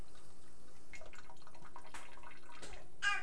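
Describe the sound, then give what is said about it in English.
Water is poured into a cup of juice to water it down, giving a short stretch of splashy trickling and gurgling with a brief louder gush near the end, and no voices. “Would you like some juice? Mommy's got to water it down.”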